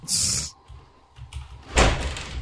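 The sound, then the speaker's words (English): A child bangs on a door: a loud thumping burst, a brief pause with low rumbling, then another heavy round of pounding that rings on as it fades. “My wife doesn't want to take the kid right now, so he's banging on my door.”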